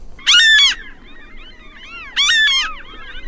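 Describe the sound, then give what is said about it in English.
Ring-billed gulls give two loud, harsh squealing calls about two seconds apart in the early morning, with fainter gull cries in between and a low background rumble. No one speaks. “They're ring-billed gulls, and sometimes at this hour of the morning you get the sun reflected on them.”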